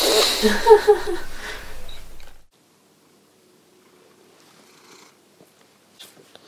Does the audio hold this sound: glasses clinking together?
no